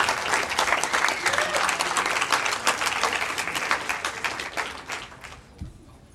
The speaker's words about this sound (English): So let's have a round of applause for the audiovisual guys for doing their work.